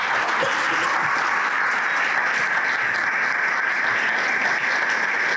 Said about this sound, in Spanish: ¿Le pueden dar un aplauso al Dios de la Biblia, por favor?